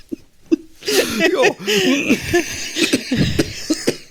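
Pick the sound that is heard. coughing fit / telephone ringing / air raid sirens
coughing fit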